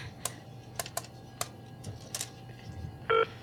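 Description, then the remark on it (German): A telephone number for directory enquiries being dialed: about eight soft button clicks at an uneven pace, then a brief steady electronic tone at the very end. No one speaks. “Dann ruf die verdammte Auskunft an!”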